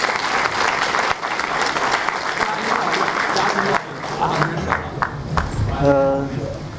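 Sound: audience applause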